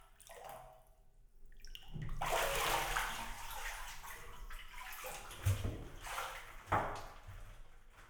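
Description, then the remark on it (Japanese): Hot bath water sloshes and splashes in a bathtub as someone rises out of it to go sit on a bath stool. A broad wash of churning water is followed by a couple of sharper splashes and thumps near the end. “それでは一度お湯から出てあちらの風呂椅子に座ってもらえますか？”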